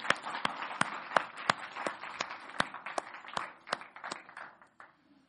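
An audience applauds, a dense wash of many hands clapping with sharp, regular claps standing out, steady for several seconds before thinning and fading at the end.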